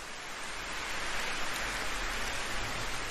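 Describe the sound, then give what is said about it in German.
Steady, soft rain falls continuously in a gentle, even hiss with no distinct drops standing out, moderately quiet, with nobody speaking. “Dieser Ort, an dem du bist, schützt dich vor dem Regen und lässt gerade so viel Geräusch und ganz sanften Windzug zu dir dringen, dass du spürst, dass du mit der Welt verbunden”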